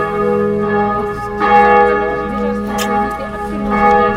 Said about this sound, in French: Désolé pour la cloche.